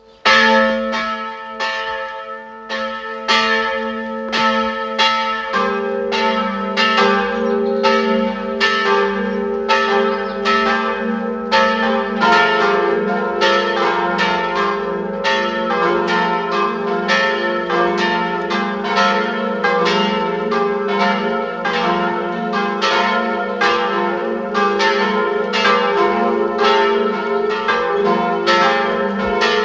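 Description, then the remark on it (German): Several bells of the parish church of Werfenweng, Salzburg, Austria, peal together at 12 noon in a continuous, overlapping ringing, with a steady stream of strikes layering rich tones throughout. The sound is loud and sustained, with no voices present. “Es läuten die Glocken der Pfarrkirche Werfenweng, Land Salzburg.”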